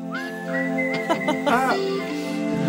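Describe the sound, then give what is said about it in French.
A woman's clear whistled melody rides over a song's instrumental backing, holding long steady notes with a quick warbling flourish in the middle, loud throughout. “C'est vrai qu'elle siffle bien.”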